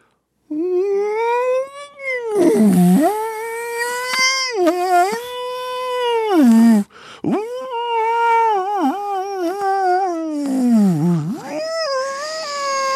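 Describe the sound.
A human voice imitates whale calls with long, loud, continuous moaning wails that swoop up and down in pitch, dipping into low groans, for about twelve seconds with no talking.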